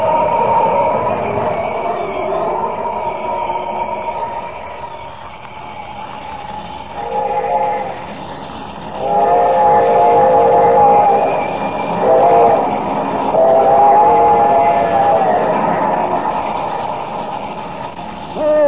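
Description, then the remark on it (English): A train rumbles steadily along the tracks toward a bridge, loud, while its whistle sounds in several long, wavering blasts over the continuous clatter. “Can I reach that bridge before the train does?”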